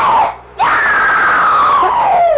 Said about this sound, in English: What's that? Beg your pardon. I heard it. I thought I heard... I heard it, too. Someone screamed.